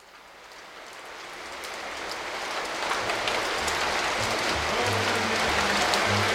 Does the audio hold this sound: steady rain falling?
yes